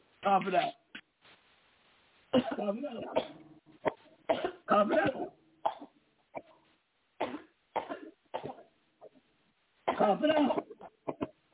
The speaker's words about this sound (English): Cough it out.